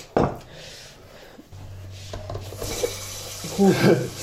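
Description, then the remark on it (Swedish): Water runs from a tap into a carafe, a steady rushing hiss after a brief clink, growing a bit louder toward the end. “Så jag ska gå fylla på karaffen”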